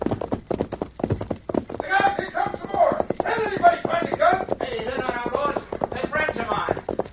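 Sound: horses galloping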